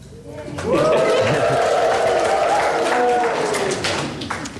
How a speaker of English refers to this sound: There was a collective gasp. There was a moment of silence. And then there was cheering.